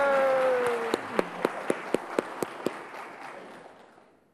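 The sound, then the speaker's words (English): A round of applause: a dense wash of clapping with about nine sharp, evenly spaced claps riding on top. A brief cheering voice at the start, then the sound gradually fades out. “was that the largest round of applause you've gotten all week?”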